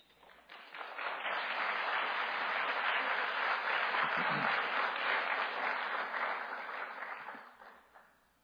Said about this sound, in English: Told you I'm not used to people clapping for me